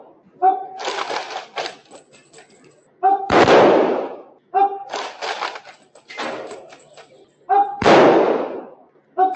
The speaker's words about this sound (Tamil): இதனைத் தொடர்ந்து துப்பாக்கி குண்டுகள் முழங்க அவரது உடல் தகனம் செய்யப்பட்டது.